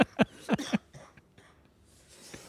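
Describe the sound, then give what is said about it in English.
A harsh burst of three or four coughs in quick succession from a person who is ill, with a fart slipping out among them, then faint rustling and quiet background noise. “So I farted when I coughed.”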